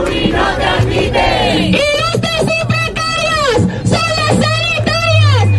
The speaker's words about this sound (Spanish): Ayuso ha sido recibida así, a gritos